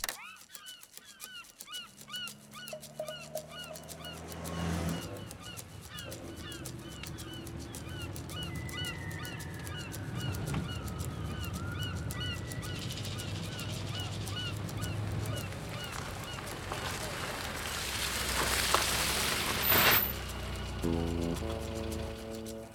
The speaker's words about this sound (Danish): Det må være havmåger, tænker jeg. Okay. Jeg tror, vi nøjes med havmåger.